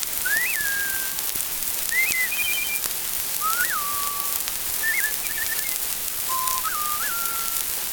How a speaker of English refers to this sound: Farther off, a wood thrush sings flute-like notes.